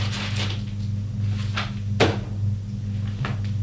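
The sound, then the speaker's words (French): Someone opens a writing desk and rummages through its papers, searching for a social security card, with a series of scattered rustling and shuffling noises and one sharper knock midway over a steady low hum, with no talking. “Elle ouvre le secrétaire et cherche dans les papiers.”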